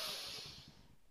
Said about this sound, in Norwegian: Vi gjør det enda en gang. Pust godt inn.